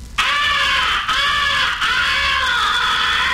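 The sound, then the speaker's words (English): A crow call blown in a tough, raspy fighting call: loud, harsh, drawn-out caws run together in three long, nearly continuous blasts, imitating an agitated crow, with no talking. “The third essential call is the fighting call. Make it sound tough and chesty.”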